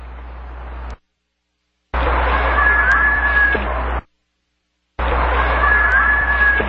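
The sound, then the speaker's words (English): Shrill screaming like children at play, heard in two long noisy bursts separated by abrupt silences, with a thin high wail rising over a steady hissing background. “Oh, boy, that does sound like kids screaming, doesn't it?”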